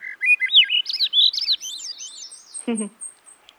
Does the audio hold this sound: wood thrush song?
yes